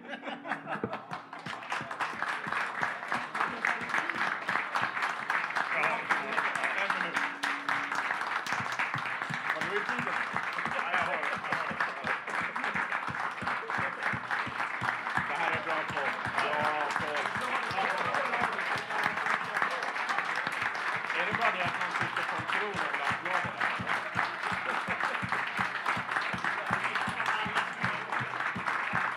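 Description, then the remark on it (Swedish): Steady, continuous applause from a group, given as a Hammarby football supporters' minute of applause, keeps up for about thirty seconds at an even loudness, with scattered chuckles and murmuring voices mixed into the clapping. “Det vill säga en minuts applåd.”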